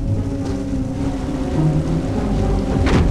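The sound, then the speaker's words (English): Steady river water rushes around a drifting Jeep Cherokee with a low, droning rumble underneath, water splashing the dashboard, and a brief splashing burst near the end. No one speaks. “Water splashes the dashboard.”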